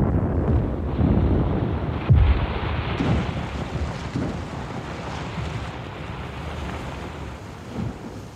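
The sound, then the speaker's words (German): A muffled, deep underwater explosion bursts out once in the Balta near its steep, rocky shore, throwing up a huge fountain of water and foam, low and heavy, then fades into a steady rumble of wind and surging water that continues to the end. “Eine dumpfe Explosion unter Wasser.”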